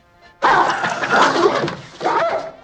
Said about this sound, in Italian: Aveva detto che il suo cane non mordeva. Quello non è mica il mio cane.